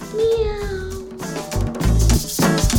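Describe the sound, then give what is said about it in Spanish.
A voice playfully imitates a cat's meow, a drawn-out tonal call followed by shorter, brighter meow-like cries, fairly loud over a low background thump. “¡Miau! ¡Miau! ¡Miau!”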